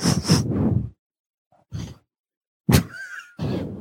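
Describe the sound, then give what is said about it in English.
Heavy snuffling breaths from a boxer puppy breathing into a microphone come in several bursts with short silences between, and a sharp wet jowl smack at one point, with no one talking. “I heard the jowl smacking.”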